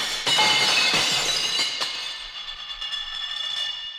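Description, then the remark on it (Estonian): A loud crash of the whole contents of a dish cupboard shattering against a white wall, with several sharp impacts in quick succession followed by bright ringing shards and tinkling fragments that slowly fade out. No voices. “Kuigi vaimusilmas lendas kogu nõudekapi sisu efektse märulifilmi heliga vastu valget seina kildudeks.”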